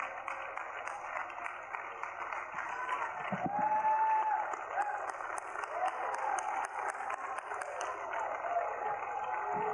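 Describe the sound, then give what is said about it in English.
Sustained applause from a church audience, given as a hand clap of praise to God, dense steady clapping with scattered cheers and whoops rising above it, holding a fairly even loudness throughout. “Let's give him a hand clap of praise and honor the God of glory.”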